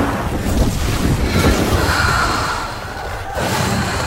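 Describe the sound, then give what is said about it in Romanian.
Steady wind rushes over rolling sea waves, a dense, continuous wash of noise with a brief dip near the end before the surge returns. No voices are present. “Se vede marea.”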